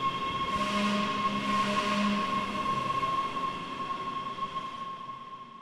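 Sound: metro train passing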